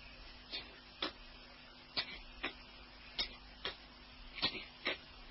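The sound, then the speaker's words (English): A clock that a crocodile has swallowed ticks steadily inside it in paired tick-tock beats, sharp, over a low, constant background hum with no voices. “But by a lucky chance, he swallowed a clock, and it goes.”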